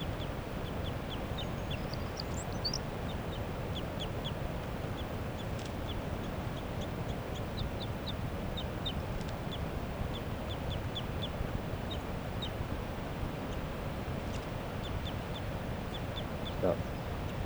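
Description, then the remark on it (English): A caught wild female bird calls in a steady series of short, high-pitched chirps repeated every second or so, fairly faint over a constant low rumbling background, with no clear flapping audible. “Flapping of the caught wild female. Still 40 vocalizing.”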